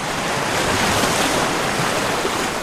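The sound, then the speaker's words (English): Waves break on a beach on the Hawaiian island of Oahu in a steady, loud roar of surf that washes on without pause, with a faint windy hiss mixed in and no voices. “The beach was about to become home to 1,000 condos and a sprawling hotel.”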